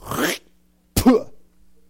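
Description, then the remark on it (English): A person vocally imitates clearing their throat before spitting: a short raspy, breathy burst, a brief pause, then a harsher guttural rasp, fairly loud with no speech. “Maybe he's clearing his throat because he's about to just.”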